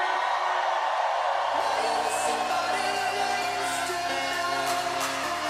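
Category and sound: crowd, crowd screaming and cheering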